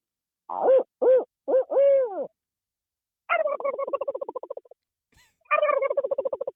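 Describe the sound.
A person imitates a barred owl with four loud hoots, the last one drawn out, then answers with two rapid, rattling turkey gobbles imitating a Merriam's jake, separated by a short pause.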